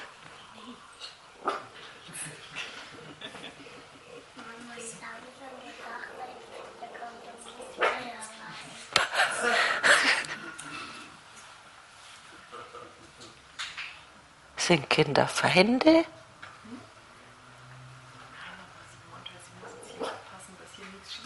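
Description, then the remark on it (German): A small female dog barks in sharp, loud bursts and whimpers between them, while people keep talking. “Ach so, ja, sie muss aufpassen, dass hier nichts schief geht, die kleine Hündin.”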